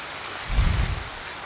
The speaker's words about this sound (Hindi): अब ताली की आवाज से जो एक आध कोई नींद कर भी रहा होगा जग गया होगा, है ना?